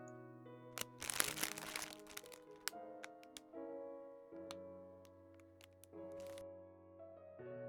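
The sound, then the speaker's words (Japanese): Crisp crunches of a thin Pocky biscuit stick being bitten during a Pocky game, a dense cluster early on and then scattered single snaps, over soft sustained musical tones with no talking. “ザコのお兄ちゃんはポッキーゲームしたくない？”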